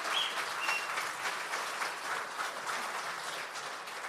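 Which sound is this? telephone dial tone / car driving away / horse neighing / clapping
clapping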